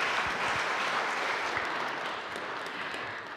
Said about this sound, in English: Thank you. Thank you. Can we have a big round of applause for our brave home group leaders?